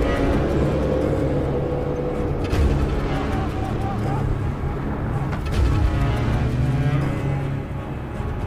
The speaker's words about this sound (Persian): ماشین نظامیان نزدیک میشن.